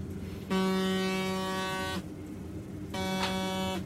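Two long, steady buzzer tones sound one after another in a train driver's cab, each a harsh, harmonically rich drone lasting over a second, separated by a short gap over low background rumble.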